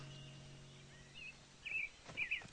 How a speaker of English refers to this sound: That's a robin! Right! I didn't know you were a bird expert. Robins have red tummies. We learned that in play school. He's looking for worms to eat.